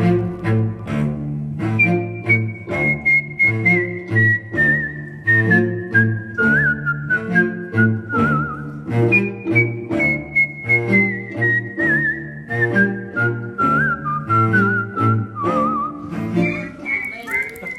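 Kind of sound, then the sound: person whistling a tune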